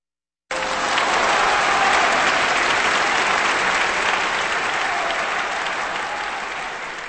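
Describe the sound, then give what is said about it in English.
An audience applauds pianist Vladimir Horowitz after his performance of Chopin's Polonaise No. 7 in A major, a dense, steady wash of clapping that starts abruptly and holds strong throughout, tapering only slightly toward the end. “Applause for pianist Vladimir Horowitz taking us through Polonaise No. 7 in A major, music by Chopin, on Kansas Public Radio.”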